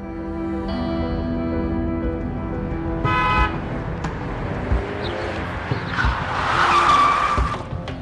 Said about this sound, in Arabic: هذا ليش عم يعمل هيك؟ وليش عم يزمر كل هالقد؟ طيب افتح له طريق.